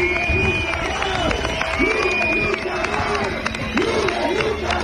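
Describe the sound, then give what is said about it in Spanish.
A large crowd of protesters in the streets of A Coruña, Galicia, on a Thursday, chanting "Lumes nunca más" over the Xunta's handling of wildfires and calling for Alfonso Rueda's resignation, a loud, steady wall of voices with rising, rhythmic shouts repeating over continuous babble. “Al grito de Lumes nunca más, las calles de 26 ciudades y pueblos en toda Galicia se han llenado este jueves.”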